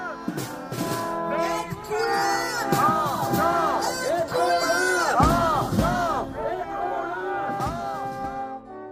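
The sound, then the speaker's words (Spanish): A large crowd at a rally in solidarity with the families of hostages in Israel shouts and chants together in loud, rising and falling waves, calling for the return of all hostages. Many voices overlap with whoops and bellows, sustained throughout. “Que vuelvan todos los rehenes ya es el grito, la reclamación constante del pueblo israelí.”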